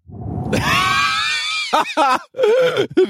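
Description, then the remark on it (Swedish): A voice imitates a fart: a low raspy buzz gives way to a long, loud, high-pitched squeal, followed by a few short squeaky bursts. “Tror när den personen lägger av en brakare, tror du att det låter så här då?”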